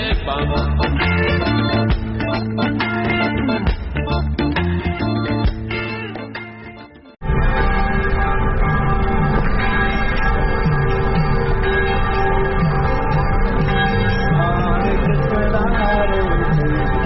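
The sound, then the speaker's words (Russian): Church bells of the cathedral on Cathedral Square in Vilnius ring out with rich, sustained tones and repeated strikes, then give way after a brief dip to a dense, continuous wash of bell sound blending with the group singing of Hare Krishna devotees. “В кафедральном пляце Вильни гуки костельного звона зливаются со спевами кришнаитов.”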